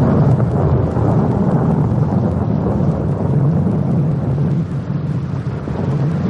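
Heavy thunder rumbles continuously through a rainstorm, a loud, dense low roar with rolling swells and a steady hiss of rain on top, no voices present.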